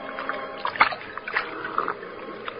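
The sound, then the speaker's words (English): Irregular splashes and sloshing as a large man, lying at full length on the bank, greedily gulps from the Salinas River in California in the late evening, with a few sharper splashes standing out over a steady watery wash. No one speaks. “Two men scramble down the bank to the water's edge, and the larger of the two, an ungainly giant of a man, throws himself at full length and greedily drinks from the river.”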